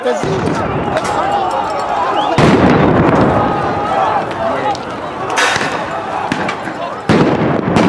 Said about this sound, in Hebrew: זה היה נראה ממש כמו זירת קרב. פיצוצים כל הזמן באוויר, רימוני הלם נזרקים, אש ברחובות.